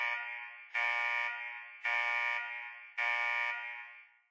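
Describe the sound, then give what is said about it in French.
A loud, harsh electronic alarm blares continuously, with three sharper pulses hitting at regular intervals about a second apart. No one speaks over it. “C'est quoi cette alarme?”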